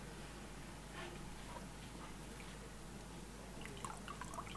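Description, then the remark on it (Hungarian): Faint water trickling and dribbling into a glass container, about two fingers' worth poured in while setting up a Cartesian diver, soft, with a few small splashy drips near the end over a steady low background hiss. No one speaks. “Körülbelül két újnyi vizet öntünk bele, víz, levegő, szájával lefelé.”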